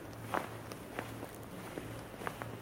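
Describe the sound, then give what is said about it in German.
Footsteps crunching through fresh snow in Hamburg while it is snowing, at an unhurried walking pace, a series of soft, gritty crunches over a low steady hum, with no one talking. “Hört ihr das Knistern?”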